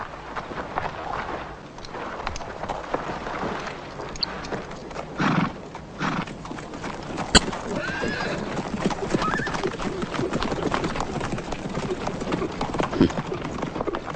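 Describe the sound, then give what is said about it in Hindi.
Horses with riders gallop in a steady, dense patter of hoofbeats throughout, with loud whinnies cutting through the thudding rush and a sharp crack standing out midway. “बेवकूफ हैं, सोचते हैं घोड़ों पर सवार होकर तोपों का मुकाबला करेंगे।”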